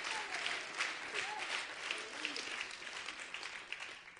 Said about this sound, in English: Now let's give Jesus a clap offering in the house.